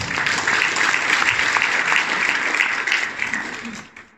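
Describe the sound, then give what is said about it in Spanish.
An audience claps to the Lord in honour of the mothers present, a dense, continuous wash of applause that holds strong for about three and a half seconds before tapering off at the end. “Vamos a dar palmas al Señor por ellas.”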